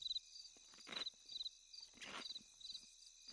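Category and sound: insect, crickets chirping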